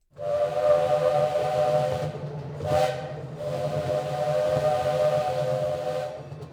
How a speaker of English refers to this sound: The last steam engine at the Milwaukee County Zoo is leaving in October.